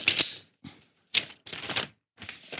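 Scissors being unpacked from packaging: crisp crinkling and tearing of plastic in four or five short bursts with brief pauses between them, no voices.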